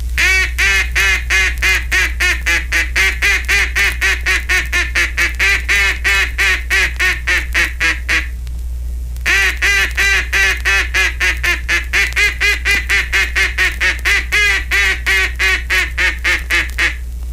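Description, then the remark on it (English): A long string of rapid, evenly spaced quacks from a duck call giving the long call or greeting call, used for ducks at quite some distance away; loud, running for several seconds, pausing briefly, then repeating in a second steady series. “Now, the first call to use is the long call or greeting call, and should be made only to ducks at quite some distance away, but should never be given when the ducks are in close.”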